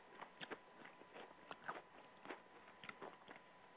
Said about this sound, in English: Oh. I'm stuck eating these cherry chips.